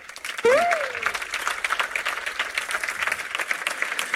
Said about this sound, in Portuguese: Deixem-me pedir uma grande salva de palmas.